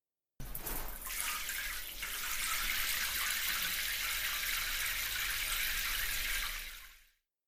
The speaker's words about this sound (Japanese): 泡が目に入るぞ。うむ、泡を落とすぞ。